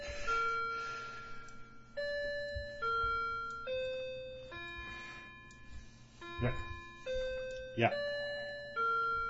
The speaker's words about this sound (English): So my clock will now famously play in the background.